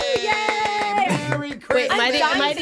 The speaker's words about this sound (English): Am I the only one clapping? No, I clapped for you.